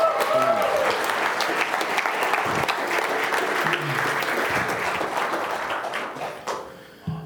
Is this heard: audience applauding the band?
yes